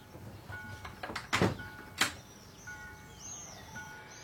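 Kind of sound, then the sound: household object, door closing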